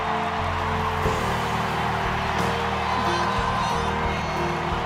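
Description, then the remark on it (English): A crowd of fans in an arena applauds and cheers in a steady, continuous roar of clapping and shouts, holding an even loudness for about five seconds, with a low sustained hum underneath. “… cries as fans applaud and blow her kisses.”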